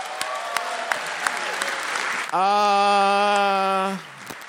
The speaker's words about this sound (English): Right. Give us up and everybody give him a big hand round of applause.